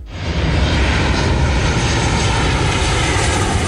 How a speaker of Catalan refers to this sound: Aterraran i s'enlairaran més avions